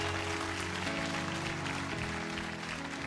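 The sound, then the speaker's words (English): A church audience claps loudly and steadily throughout as a clap offering to the Lord, a dense wash of many hands, with sustained organ chords playing underneath. “Somebody give our Lord and Savior a clap offering.”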